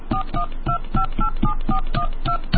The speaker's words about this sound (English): Please enter your PIN now. To make a call, dial 1, area code, and phone number now.